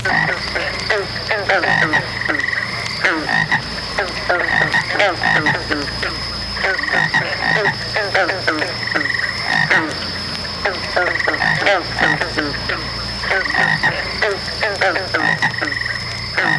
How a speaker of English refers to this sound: The second plague was that of frogs.